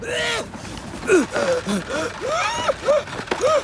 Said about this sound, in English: the coachman with his big whiskers, pipe and tiny top hat, coughs and splutters.